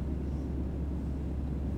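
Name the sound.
airplane cabin ambience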